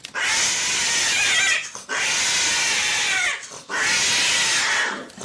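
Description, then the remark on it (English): Cats yowling loudly while mating, in three long, harsh, drawn-out wails, each lasting well over a second with brief pauses between, sounding strained, with no talking. “Cat sex sounds like it hurts, and it does.”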